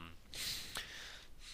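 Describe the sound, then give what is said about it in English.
A single muffled cough, a breathy burst of noise with one sharp catch in the middle, fairly soft and over in about a second, with no talking. “pardon me, I had to cough.”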